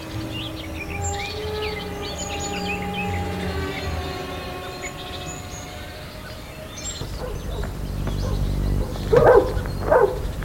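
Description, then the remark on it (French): Dogs bark in short, loud bursts near the end at the sight of a woman they treat as a stranger, over a busy outdoor background with chirping birds and a low rumbling hum throughout. “Les chiens qui aboient toujours chaque fois qu'ils la voient, pour eux c'est toujours une étrangère.”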